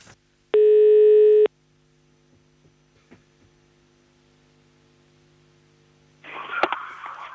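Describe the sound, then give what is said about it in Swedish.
One loud, steady telephone ringback tone lasts about a second, then a quiet line hum remains for several seconds before a rustling, crackly burst near the end. “Det ringer igen här.”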